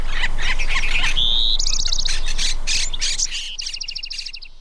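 A lively chorus of birds chirps and sings continuously, with several overlapping calls, a clear whistled note and rapid repeated trills standing out against a soft background hiss. No one speaks.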